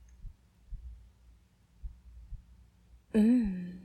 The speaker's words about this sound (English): How's the breathing going? Are you still counting my heartbeats? Or just freestyling?